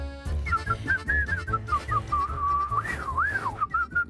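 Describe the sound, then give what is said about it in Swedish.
A person whistles a melodic tune, the pitch gliding and swooping through a continuous phrase, over a low background hum. “alltid när den här börjar så jag visslar på den där stackars styrman Karlsson”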